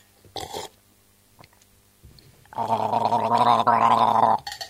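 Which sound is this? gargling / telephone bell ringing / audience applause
gargling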